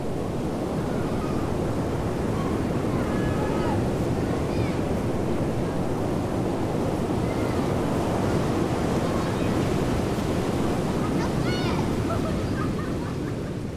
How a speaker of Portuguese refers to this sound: Ela ficou tão feliz que correu com sua prancha de surf até a praia, onde havia pequenas ondas quebrando na beirinha do mar.